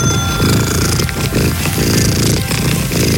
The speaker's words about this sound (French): Il atteint 54,59 décibels. Ouais, bah pour vous faire une idée du volume du ronronnement, c'est le même bruit qu'une machine à laver. Un sacré ronron, voilà, pour Bella, le chat qui ronronne le plus fort au monde et qui est donc dans le Guinness.